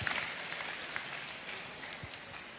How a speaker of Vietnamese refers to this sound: Rồi, cho một tràng pháo tay, cảm ơn bạn áo hồng tổ 6.